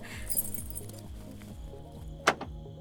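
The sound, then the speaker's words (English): Keys, kept clipped to a purse, jingle softly near the start, followed by a single sharp metallic click as a parked car's lock releases, over a low background rumble. “Let me unlock it first. I haven't lost the keys since he started clipping them to my purse.”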